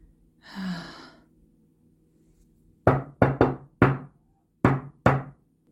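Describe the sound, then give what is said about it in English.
A heavy sigh, then six firm knocks on a next-door neighbour's door in uneven bursts: three quick raps, a single knock, and two more after a pause, loud over a low steady hum. “Just knock on the damn door.”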